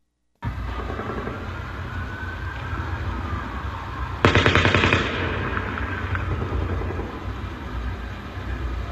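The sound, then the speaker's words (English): Distant police sirens wail faintly under a steady rumble, then a loud, very close burst of automatic weapons fire crackles out in a rapid string of shots before fading into the background noise. “No, you heard distant police cars, and then you heard a very close burst of automatic weapons fire.”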